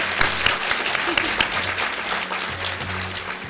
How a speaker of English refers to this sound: Huge round of applause, please